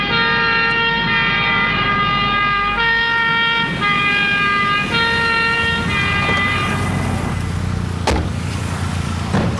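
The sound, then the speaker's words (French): A loud two-tone siren of ambulances arriving at a road accident scene alternates between high and low pitches over rumbling traffic, fading after several cycles, ending with a sharp knock. “Tenez, voilà les ambulances.”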